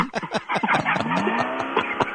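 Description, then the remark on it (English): A car engine revs loud, its pitch climbing steadily over a couple of seconds, with rough, sputtering bursts at the start and no voices. “You should take your foot off the gas and get out of the car”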